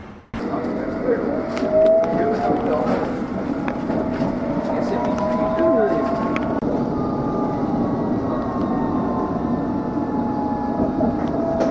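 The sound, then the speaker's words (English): A train on its way to London rolls steadily along the rails, its loud, continuous rumble with whining motor tones that rise and fall over the clattering wheels throughout. “Mind the gap between the train and the platform.”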